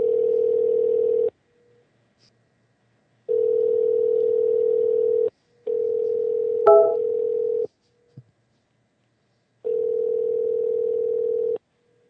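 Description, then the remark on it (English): A telephone ringback tone, from a call being placed to a guest on a show, sounds in four long, steady bursts separated by short silences, clear, with a brief click between rings and no voices. “And we will try to get Richard on the phone right about now.”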